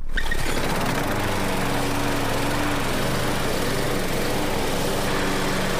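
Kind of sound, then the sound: machine, lawnmower engine running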